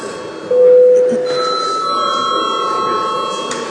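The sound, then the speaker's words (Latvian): A loud electronic bell in the Saeima parliament chamber rings continuously for about three seconds, calling for registration of deputies' presence: a steady sustained tone with shifting pitches over a hushed room murmur; nobody speaks. “Lūdzu zvanu, lūdzu deputātu klātbūtnes reģistrāciju.”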